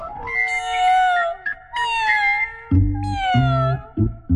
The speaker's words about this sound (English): Underneath the harvest moon, harvest moon, harvest moon, cats are crooning out of tune all around us.